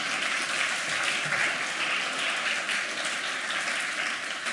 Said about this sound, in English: Are you clapping because I made you hate your ears? Or because my friend's project is cool?